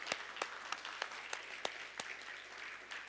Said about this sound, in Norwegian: Gi Jesus en skikkelig applaus I formiddag. Han fortjener det.